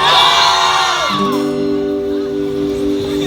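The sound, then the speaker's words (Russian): A loud crowd shouts and cheers in unison, answering "Are you ready?" with "Yes!" in Russian, a big sustained roar of many voices that swells at the start and then settles into a long, held collective yell. “вы готовы? Да! Как девки кричите.”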